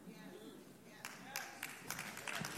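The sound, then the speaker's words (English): A few scattered audience claps start about a second in, sharp and irregular rather than sustained applause, over a low murmur of background voices. “You don't have to, I mean, if you want to clap for being rightfully fired, that's fine.”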